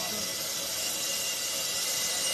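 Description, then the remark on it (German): Compressed air roars steadily through valves into a submarine's ballast tanks as the boat surfaces, a loud, continuous high-pitched hiss with no break or change, filling the whole moment without any voices. “Und jetzt strömt die Luft richtig schön in die Tauchzellen.”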